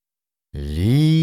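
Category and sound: animal, fox call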